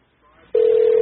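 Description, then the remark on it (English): After a moment of quiet room hiss, a loud, steady electronic telephone ring tone of a call to a controlled demolition company begins abruptly and holds without a break until the end, clear. “And of course I am familiar with this phone call.”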